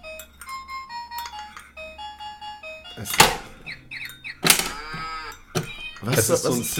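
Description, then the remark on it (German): A plastic toy farmhouse, with buttons at the bottom that open doors so a farmer, horse, cow or dog comes out, plays a tinny electronic jingle of stepped beeping notes, then bursts into loud, buzzy recorded animal calls like mooing, with faint clicks in between. “Das ist ein Plastik-Bauernhaus, ja, wo du so unten auf so Knöpfe drücken kannst und dann gehen so Türen auf und dann kommt halt der Bauer raus, ja, oder das Pferd oder die Kuh oder der Hund.”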